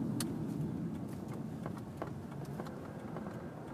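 A steady low rumble of a car engine fills an outdoor gas station forecourt, with scattered light clicks and knocks popping up over the constant hum. No one speaks.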